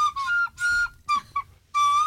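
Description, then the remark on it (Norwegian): A recorder plays a short, halting phrase of breathy, sustained high notes, with one held tone sliding slightly in pitch and brief pauses between notes, played on a Radio Norge show. No one speaks. “Men nei, det blir blokkfløtespill i stedet.”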